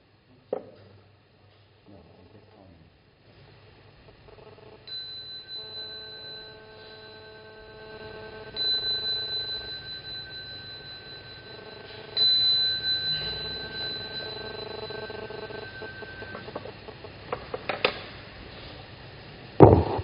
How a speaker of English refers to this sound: I may have to ring the bell again.